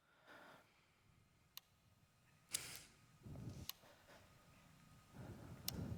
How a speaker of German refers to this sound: Okay, it's Morse code and it's CC. Es ist Morse code und es ist CCC.